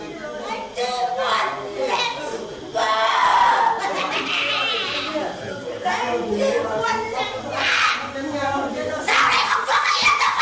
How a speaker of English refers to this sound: She screamed, stomped her feet, and we stood there for a while, just not sure what to do.